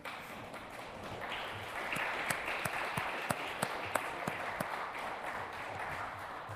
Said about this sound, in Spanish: Deberían aplaudir en este momento.